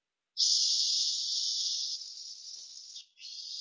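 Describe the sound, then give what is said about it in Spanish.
A person produces a long, steady, continuous voiceless "s" hiss without vocal-cord vibration, fairly loud, broken by a brief pause near the end before the hiss resumes. “Por ejemplo, F, S, Z son sordos. Y además son continuos.”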